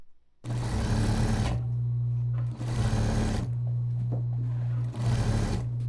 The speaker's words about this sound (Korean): 재봉틀 돌아가는 소리가 바쁘게 들리고 있습니다. 이곳은 경기도 부천시 소사지역자활센터입니다.